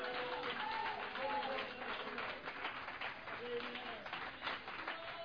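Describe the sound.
A church audience claps in praise to the Lord, steady and dense in a sustained wash of applause, with voices calling out and faint musical tones running underneath throughout.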